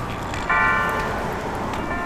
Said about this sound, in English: Good echo on the bells there. The echo would be in the primary microphone.